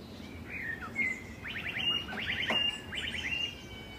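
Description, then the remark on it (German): A blackbird in Münster sings a mimicked e-scooter alarm: a couple of whistled notes, then three quick bursts of rapid, electronic-sounding chirps, clear over faint background hum. “Und für die, die neu dabei sind, habe ich auch eine Scooter-Amsel mitgebracht, eine aus Münster, und die hören wir uns nochmal an.”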